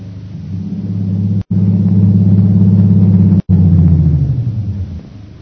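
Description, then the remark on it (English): An airplane engine warming up at the airport in Mandalay before a long flight to Upper Burma: a loud, steady low drone with a humming, slightly pulsing tone, briefly cut off twice, then easing down in pitch toward the end. No voices. “As her plane is being warmed up for its long flight to Upper Burma, Myra Trent enters the airport.”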